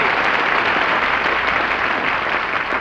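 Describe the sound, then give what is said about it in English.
Sustained audience applause welcoming a returning performer fills the whole stretch, a dense, steady wash of many hands clapping at a fairly loud, even level with no voices standing out. “you hear that applause, Mary?”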